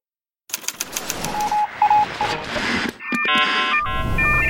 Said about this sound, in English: Are you hearing that car alarm that's going off somewhere outside? That's the human noise that interferes with finding the signals you care about.